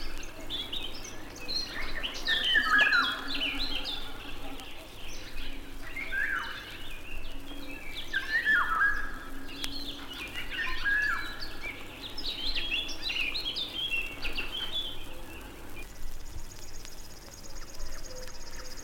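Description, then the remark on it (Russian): Eurasian golden oriole song: short fluting, whistled phrases repeated every few seconds over a soft background of other birds, with a thin high buzzing starting near the end. “Ярко-желтая с черным окраска самца очень красива. Но увидеть Иволгу трудно.”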